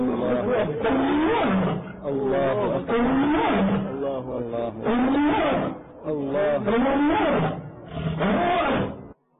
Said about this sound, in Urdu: ایک شیر, اس شیر کو بھی آپ دیکھ لیجیے, دیکھیے کتنا واضح طور پر اللہ اللہ اللہ کر رہا ہے.